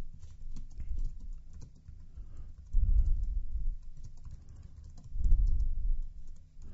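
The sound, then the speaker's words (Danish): Steady clatter of someone typing on a computer keyboard, writing text on a newly created page in an editor, rapid key taps running continuously with a couple of louder bursts, no voices. “Så vi kan gå i gang med at skrive.”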